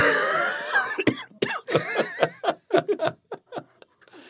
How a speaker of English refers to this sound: Oh, I'm sorry for that coughing fit, everyone.